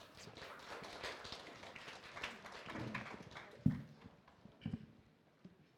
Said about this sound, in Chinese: 会众请坐，我们拍手欢迎。